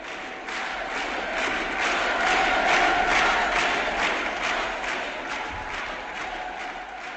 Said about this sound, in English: These shouts, which sounded like the brute response of a huge mass machine and had no resemblance to the spontaneous cheers of a crowd, brought back mean and bullying memories.